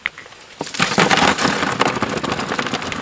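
About 10 to 12 crayfish, some small and some large, from a trap just pulled up, are poured into a sorting tub: a single light tap, then a sudden burst of dense clattering and scrabbling that continues as rapid, crackly rustling without any voices.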